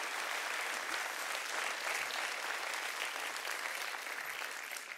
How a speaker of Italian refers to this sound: Venite ragazzi, portate pure via, facciamo un applauso ai tecnici che sono meravigliosi.